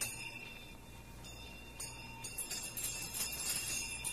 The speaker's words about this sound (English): As he threw his head back in the chair, his glance happened to rest upon a bell, a disused bell that hung in the room. It was with great astonishment and with a strange, inexplicable dread that as he looked, he saw the bell begin to swing.